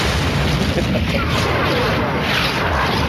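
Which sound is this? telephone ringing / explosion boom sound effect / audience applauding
explosion boom sound effect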